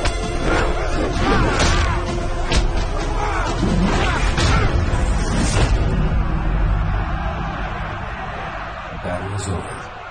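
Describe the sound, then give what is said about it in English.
A rapid flurry of heavy punches and roundhouse kicks smacks and thuds as one man strikes another, a foot slamming into his face, sharp impacts landing one after another over a dense, noisy background of shouting and commotion. “He deals the man a series of punches and roundhouse kicks.”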